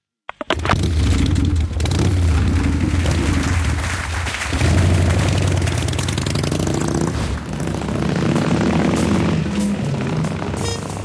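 A loud engine rumbles steadily, its pitch rising and falling as it revs over a dense, roaring backdrop, with no talking throughout.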